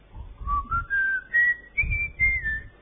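A person whistles a bright, rising melody in a series of short phrases, each note climbing higher, close and clear with no talking.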